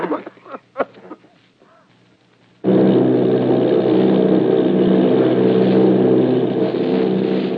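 After a few seconds of quieter voices, the loud, steady drone of the propeller engines of Army bombing planes, a flight of 8 bombers off Bayonne, New Jersey, cuts in abruptly and roars on without letup, dense, to the end.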